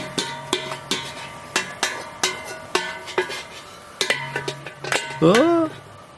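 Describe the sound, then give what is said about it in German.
The metal lid of a pot of soljanka cooking over an open fire, nearly dropped, clatters and clanks about a dozen times in an irregular rhythm, each hit ringing briefly, followed by a short voiced exclamation at the end. “Es ist mir fast der Deckel runtergefallen.”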